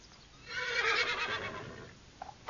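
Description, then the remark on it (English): A horse in a stable whinnies loudly, a long quavering neigh that rises and then trails off, followed by a couple of soft snorts or shuffles. “Flora took me on the evening's round of the stables.”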